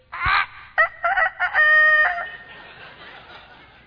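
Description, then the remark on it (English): A rooster crows once, loud, a harsh opening note followed by broken syllables and a long sustained cry that fades out into quiet background. “Jesus warned me a couple of chapters ago that I was going to die before the rooster crowed.”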